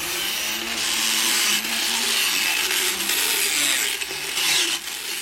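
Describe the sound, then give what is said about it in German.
A power grinding machine whines steadily for several seconds as it grinds a horse's teeth, a harsh high-pitched buzzing that wavers slightly as it works against the hard surface, with no voices. “Aufhören, Schleifmaschine, fast genauso schlimm wie ein Bohrer.”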